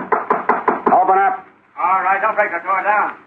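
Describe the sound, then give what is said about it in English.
Police officers pound a quick burst of about six loud, hard knocks on a wooden door bolted from the inside, then stop as voices start talking. “Open up. All right, don't break the door down.”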